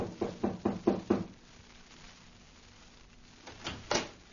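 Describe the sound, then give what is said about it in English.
Five firm, evenly paced knocks on the wooden front door of a house, followed by a pause and then a couple of softer bumps and rustles, like the door being handled. “Then he returned to the front of the house, knocked on the door.”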